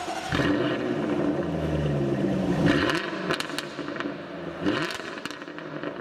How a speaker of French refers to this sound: Et vous n'entendrez donc bientôt plus ce doux ronronnement cher aux oreilles des amateurs de Jaguar, ce moteur V8.